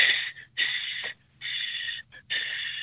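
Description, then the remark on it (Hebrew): Loud breathing through the nose with the mouth closed, as a calming breathing exercise: a deep inhale followed by an exhale, done twice in a steady rhythm, with airy hissing and short pauses between breaths. No talking. “לקחת עם פה סגור, לקחת דרך האף נשימה אחת עמוקה לגובה ולהוציא אותה 4-5 פעמים ככה.”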